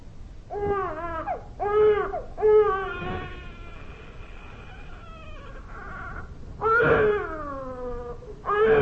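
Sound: baby crying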